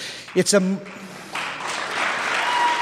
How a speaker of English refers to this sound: You're clapping for him.